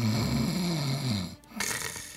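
A sleeping guard in a museum snores: a loud, droning snore with a low, buzzing rumble lasting over a second, a brief pause, then a breathy, rasping intake of air. No one speaks.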